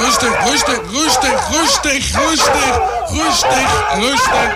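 A dog barks in a quick, steady run of about nine loud woofs, one after another, over a busy, noisy background.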